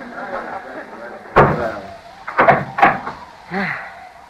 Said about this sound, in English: Wait till I make fast this door.